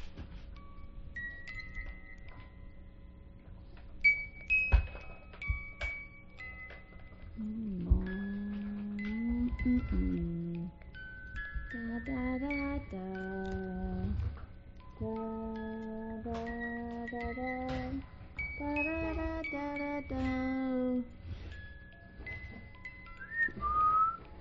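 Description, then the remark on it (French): A music box plays a simple melody of clear, sustained notes stepping up and down in pitch, preceded by a few scattered high tinkly tones; no one speaks over it. “Regarde, on joue la boîte musicale.”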